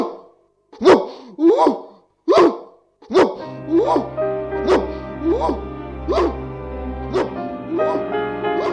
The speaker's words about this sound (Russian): Нет, мамочка. Так она лает, когда почувствует опасность.